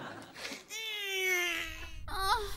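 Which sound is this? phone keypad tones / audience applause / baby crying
baby crying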